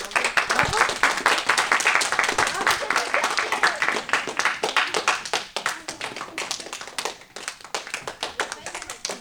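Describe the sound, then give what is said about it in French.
Schoolchildren at a school in Chauvigny applaud themselves, with dense, rapid clapping that stays steady before thinning slightly near the end, with a few voices mixed in underneath. “Vous pouvez vous applaudir ?”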